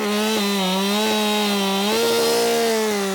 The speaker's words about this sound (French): je les attaque à la hache et à la tronçonneuse. Mais pas toujours. Ça va dépendre beaucoup des infractuosités du bois, de ce qu'il a, de ce qu'il recèle, de l'idée que j'en ai derrière. Mais oui, forcément, au début, ça commence avec la tronçonneuse.